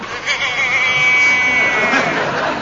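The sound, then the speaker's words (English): A single drawn-out, wavering sheep bleat rises over a steady wash of background murmur and crowd-like noise, lasting a second or so before fading back into the hubbub. “There's a sheep there.”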